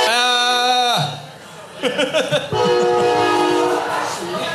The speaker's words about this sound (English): Train. I think there's a train coming. Is there a train?